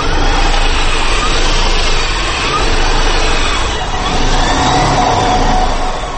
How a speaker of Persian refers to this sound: صدای ماشین برقی ایامیدین خیریدین، دانشجوی سال چهارمی دانشگاه تکنولوژی تاجیکستان را میشنوید که در آزمون عمومی جمهوریوی بهترین اختراکار میان جوانان کشور جای اول را اشغال نمود.